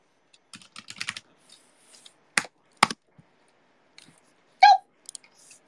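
Quick bursts of typing on a computer keyboard, irregular clicks and clacks clustered early, then a couple of louder sharp key strikes and a brief tonal blip amid scattered taps, fairly quiet, no voices.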